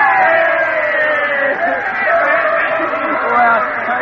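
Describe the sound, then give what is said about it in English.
A large crowd of students cheers and yells together at a campus rally on the evening before a baseball game, giving a 'Brackety X' cheer for the team, a loud, dense wall of overlapping voices that stays steady for a few seconds. “All right, gang, one last cheer, a Brackety X for the team.”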